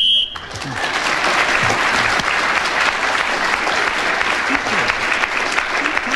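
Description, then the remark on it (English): A short, shrill whistle blast sounds for under half a second, then loud, steady applause breaks out and continues evenly to the end. “I'm rather pleased the whistle went.”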